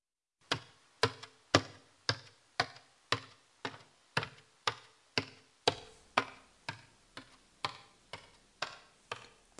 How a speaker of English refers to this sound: This is the sound of a person going up the stairs. The sound word for this is... トントン